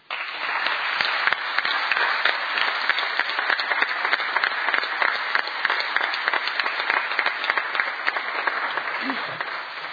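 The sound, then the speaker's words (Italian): Sustained applause from a large group at a city council meeting, a long applause honouring councillor Pompei: a dense steady patter of many hands clapping at an even, fairly loud level for the full duration, with no voices standing out. “Quindi 5 minuti di interruzione, e vorrei salutare, prima di interrompere, l'assessore Pompei con un lungo applauso.”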